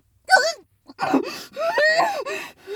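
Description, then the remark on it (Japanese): A dog yawns deeply, letting out squeaky, whining glides that rise and fall, then several more drawn-out groaning yawn sounds. Fairly loud, with no talking. “補欠ワンコであくびする。あくびします、あくび。”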